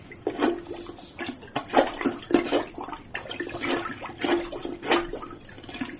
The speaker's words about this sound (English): It seems that your toilet is clogged, and that's why it won't flush. Let me just get my plunger.